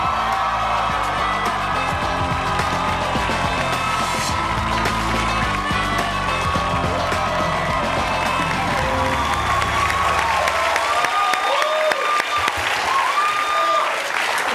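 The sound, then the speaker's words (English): The Daily Show studio audience cheers, claps and screams loudly and continuously as guest Lakeith Stanfield is welcomed, with high-pitched shrieks rising above the roar toward the end and music playing underneath for most of the first half. “The pitches of the screams are not usually that high, although I feel you're used to that.”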